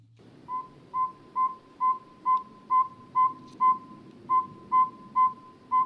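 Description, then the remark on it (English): A bird call resembling a truck's backup beeper: a long run of about a dozen evenly spaced, clear whistled toots, steady in pitch and rhythm, heard alone over faint background hiss. “That's a car backing up, isn't it? It's the backup bird.”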